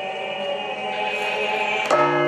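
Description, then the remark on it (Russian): Church bells toll a slow funeral peal for the Good Friday cross procession at the Rostov Cathedral of the Nativity of the Theotokos, their rich ringing tones hanging in the air before a fresh strike lands near the end. No voices are heard. “Крестный ход в Страстную Пятницу символизирует погребение Иисуса Христа и сопровождается погребальным перезвоном колоколов.”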